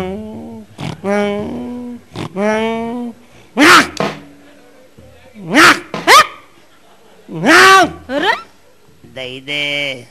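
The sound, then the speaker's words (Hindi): A man imitates a dog with a string of loud bark-like yelps and whiny vocal sounds, several bursts spread over about ten seconds with short pauses between. “तो कुत्ता मालूम क्या कर रहा? क्या कर रहा?”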